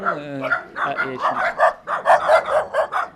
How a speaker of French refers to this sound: Il y a trois chiens là, qui nous accueillent. Voilà, ils nous saluent.